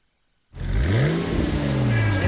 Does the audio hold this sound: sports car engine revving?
yes